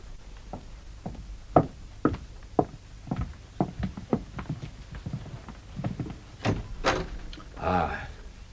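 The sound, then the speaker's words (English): A steady series of sharp footsteps, then a couple of louder knocks or handle clacks, ending in a short scraping rush as the unlocked door to the treasure room, reached through a dressing room, is pulled open. “Now, we shall see whether the door to the treasure room is locked or open, with mademoiselle's permission.”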